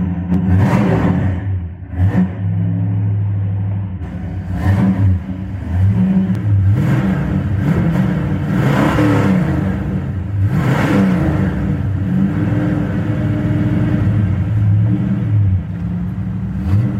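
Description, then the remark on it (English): A four-speed car with a tri-power setup of three 2-barrel carburetors and 360 horsepower revs and accelerates hard through several gear changes, the pitch climbing and dropping with each shift, with a deep, loud, steady rumble throughout and no talking. “It's a four-speed, right? Four-speed car, yes, sir.”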